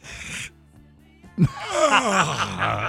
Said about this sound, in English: Take a stretch. Did you have a night last night by any chance? It's 10:57. I'm up. You yawned.